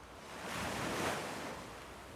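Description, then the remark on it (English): Ocean waves wash in as a soft, broad rush of surf that swells to a peak and then slowly recedes, steady with no voices. “Now together, let's take another deep breath, and I invite you to listen to the sounds of the waves.”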